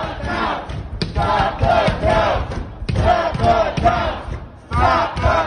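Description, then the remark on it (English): A crowd of protesters, many of them white Trump supporters, shouts and chants together outside a polling place in Detroit, banging on doors and windows to stop votes from being counted, in loud, overlapping bursts rising and falling in waves with brief dips between surges of many raised voices. “But that didn't stop a group of protesters, many of them white Trump supporters, from gathering outside of a polling place in Detroit and banging on doors and windows to stop votes from being counted.”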